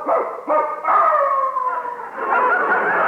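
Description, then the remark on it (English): A large dog, Wolf, howls loudly on the front porch after breaking out of a neighbour's backyard, in long, wavering tones, with a couple of short breaks between drawn-out cries and no talking. “Wolf broke out of the Dentons' backyard, and he's on our front porch this very minute.”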